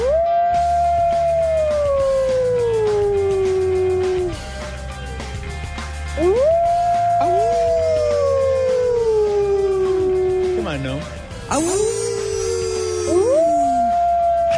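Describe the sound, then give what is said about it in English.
Coyotes howl in long, sliding wails that rise and slowly fall, several overlapping voices, with a burst of high, quavering yips partway through. Loud and continuous, with no talking. “I mean, Manhattan is being overrun by coyotes.”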